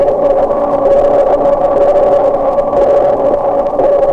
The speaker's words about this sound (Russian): Вы слышите эхо, отражающееся от подводных предметов. Эхо и рассказывает животным, что происходит вокруг них.